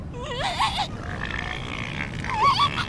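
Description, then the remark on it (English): Elephant seals grunting and bellowing on a beach at Año Nuevo in the Bay Area, in two loud, warbling bursts with a rough, throaty buzz between them, over a steady background rush; no one speaks. “And this is a good viewing area because you can look north and up the entire beach to see the elephant seals.”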